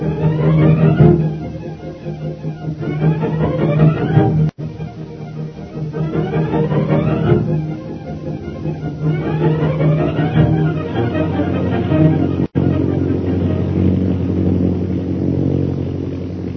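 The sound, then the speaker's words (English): Jungle Jim's propeller plane drones steadily in flight over mountainous jungle country on its way toward Mandalay: a loud low engine hum with a whining pitch that rises and falls in repeating sweeps every few seconds, with no voices. “After landing at Hong Kong to refuel, Jungle Jim's plane continues on its journey toward Mandalay.”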